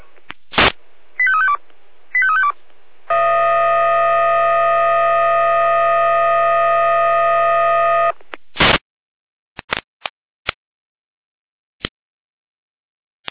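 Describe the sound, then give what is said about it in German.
Fire brigade alerting in Jena, Germany: bursts of static lead into two quick sequences of beeping alert tones, followed by a long, steady, buzzing multi-tone signal lasting several seconds, then scattered clicks and crackles. No one speaks. “Jena mit Alarmierung.”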